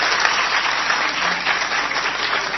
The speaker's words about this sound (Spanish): Quiero señalar que ayer tuvimos un día de gran alegría en el deporte. No ganamos, pero la verdad que la selección nacional jugó extraordinariamente bien. Así que un gran aplauso.